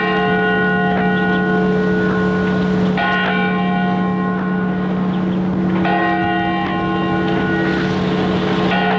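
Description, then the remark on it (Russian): The clock of the leaning Nevyansk Tower strikes three times at a slow, even pace, each deep bell stroke ringing on with long, layered overtones above a steady low hum. No one speaks. “Бьют часы Невьянской башни.”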